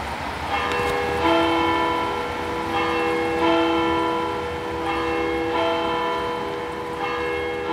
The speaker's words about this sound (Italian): abbiamo sentito le campane della chiesa riformata accanto.